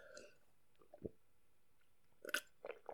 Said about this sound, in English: Hold on, let me put this down. Take my drink of water.